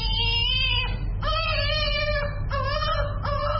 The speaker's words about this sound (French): Un bébé de 4 mois pleure en recevant son deuxième vaccin contre la polio à l'hôpital de la Fondation Chantal Biya à Yaoundé, la capitale.